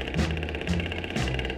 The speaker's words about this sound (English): When she heard that old jackhammer started screaming, go cat go, do the rat-a-da-da-da-da-da-da-da.